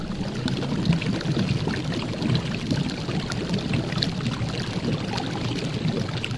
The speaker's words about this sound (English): Oh, yes, what was that? What was that? That was something boiling. I think it was water boiling. Definitely a liquid bubbling and boiling and bubbling and boiling.